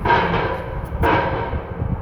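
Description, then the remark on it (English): Loud, steady drilling noise from heavy machinery at an Omni well construction site in Ohio, a broad grinding roar over rapid low thudding, with a sharper surge of noise about halfway through. No one speaks. “This drilling sound will subside after construction is completed, according to Chris Gagan, attorney for the company.”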